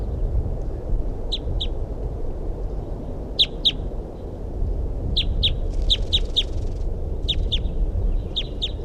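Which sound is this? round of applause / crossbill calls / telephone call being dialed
crossbill calls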